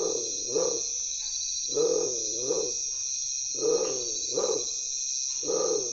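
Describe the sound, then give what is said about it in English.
A tiger-striped bird, heard close up at a camp at night by firelight, gives deep, growling calls like a big cat, repeated in short paired bursts with brief pauses, over a steady high-pitched insect drone. “Undoubtedly, the name was derived from the plumage having a tiger-striped pattern, but the moment you hear its voice, you can't help think of a large cat.”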